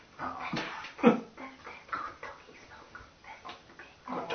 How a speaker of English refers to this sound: They haven't noticed you yet, but something is unnerving them. The dogs shiver quietly with fear, whining softly from time to time.